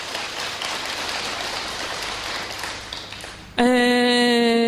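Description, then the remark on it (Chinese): A dense, steady burst of applause for a master (sifu), many hands clapping for about three and a half seconds, cut off abruptly by a loud, sustained buzzing tone with a steady pitch. “俾啲掌声呢位师傅好嘛？”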